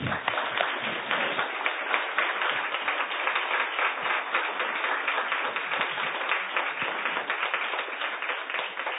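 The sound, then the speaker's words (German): A crowd applauds steadily for several seconds, a dense wash of many hands clapping at an even, sustained level without any talking over it, a short applause at the Kepler-Salon thanking a speaker after a talk. “Es war extrem spannend und vielleicht geben wir mal einen kurzen Applaus.”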